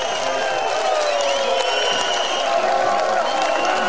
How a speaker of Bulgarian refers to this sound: Силно политиско обезбедување, свирежино и аплаузи, во ваков амбиент се славеше Илинден на Мечкин камен.